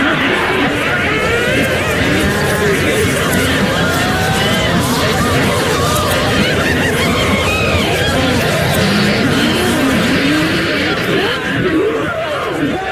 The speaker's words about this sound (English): Here the raucous cackling, shrieking and chattering of 100 old women filled the air to the rafters.